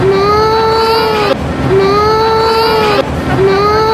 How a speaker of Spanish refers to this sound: Y había cuatro frikis muy malamente disfrazados que lo único que consiguieron, y lo que vamos a oír es un llanto real de niño, es hacer llorar a las criaturas.